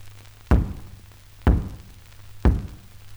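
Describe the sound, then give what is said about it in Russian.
Three heavy, evenly spaced knocks, about a second apart, thud against a door with a low resonant boom, each fading quickly into a faint steady hum. “Что там за стук?”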